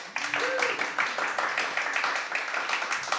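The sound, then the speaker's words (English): A crowd claps steadily in a dense, sustained round of applause, with a few voices cheering faintly underneath. The clapping stays fairly even and moderately loud throughout. “Yes, I love this round of applause.”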